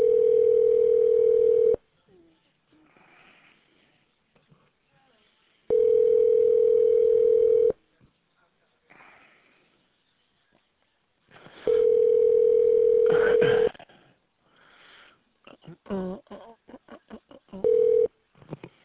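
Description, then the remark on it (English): A telephone ringback tone sounds in long, steady bursts separated by pauses, repeating several times as a call to the Metalmark Fine Jewelry store in Carmel, Indiana tries to connect, with faint background noise between rings and a short final ring. “Please hold while I try to connect you.”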